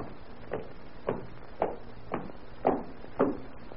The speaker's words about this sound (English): At last, footsteps are heard approaching.